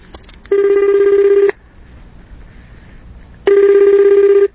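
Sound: telephone ringing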